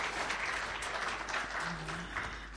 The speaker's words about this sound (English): And your pastor, give a warm welcome for your, or welcome, give an applause for your pastor, because they are awesome. They are awesome.